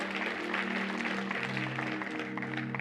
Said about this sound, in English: Can you say, yeah, that's a good place to shout and clap right there.